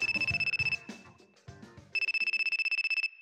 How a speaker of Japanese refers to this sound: 電話なんて珍しいわね。 うん、いつもなら誰かが直接部室を訪ねてくるのに。